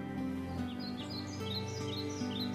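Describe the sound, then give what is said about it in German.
A bird sings a series of quick, high chirping phrases over a steady, sustained musical background, the song clear throughout, in a forest at night under twinkling stars. “Und sofort wurde es ein wenig heller, die Sterne funkelten und ein Vogel begann zu singen.”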